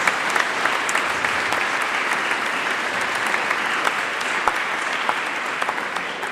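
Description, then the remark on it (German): A church audience applauds this year's confirmation candidates of St. Antonius and St. Pius, a dense, even wash of many hands clapping steadily at a fairly loud level with no pauses and no voices on top. “Und denen dürfen wir mal klatschen in der stillen Hoffnung, dass wir auch dann”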